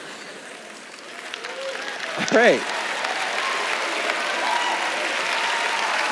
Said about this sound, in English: Someone clap for that? There's people clapping for...